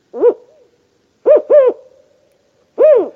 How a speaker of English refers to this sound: That was the Mexican spotted owl, and it is an imperiled bird that lives here in the Southwest.